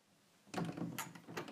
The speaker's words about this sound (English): Do I close the door? Yes? Okay.